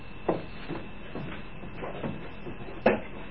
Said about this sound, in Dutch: Ja, en nou de ijskastdeur weer dicht. Zo. Goed dicht doen. Dicht duwen. Zo. Ja.